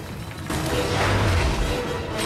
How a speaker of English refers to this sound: The unstoppable vehicle plows through a wall and smashes through an office. Bulldozing its way into the next room, it topples over row after row of bookshelves.